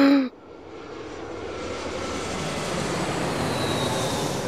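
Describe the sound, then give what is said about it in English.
A jet airliner's engines roar steadily at Moscow Domodedovo Airport on a freezing day under a dark grey sky, a broad, continuous whoosh that swells slightly louder over a few seconds after a brief tonal blip at the start. “Detective Inspector Brian Tarpey steps off the plane at Moscow Domodedovo Airport.”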